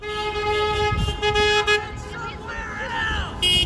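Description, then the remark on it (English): Several car horns blare in long, overlapping blasts amid street traffic in center city Philadelphia, during an evening-commute car meetup of 70 vehicles simulating event traffic congestion near a proposed arena on Market Street, followed by a voice speaking over the din before another short honk cuts in at the end. “The car meetup was organized to simulate traffic congestion before and after events at the more than 18,000-seat proposed arena that would sit just steps away from Chinatown.”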